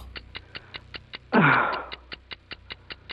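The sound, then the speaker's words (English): A quick, steady clock tick repeats about five times per second, crisp, like a 5-second countdown timer for answering a quiz question, with a short louder burst of sound briefly cutting in midway. “It's an easy one, but tough when the clock is ticking.”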